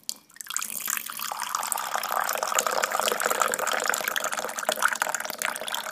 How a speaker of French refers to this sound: L'eau que l'on verse sur les feuilles de thé.